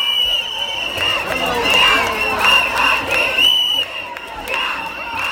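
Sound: crowd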